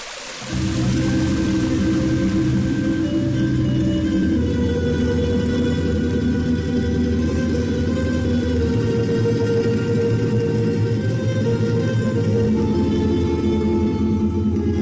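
A loud, steady low rumble of the Ćirković watermill on the Atinička river, with water flowing through it, a droning, churning sound that runs continuously, with no voices.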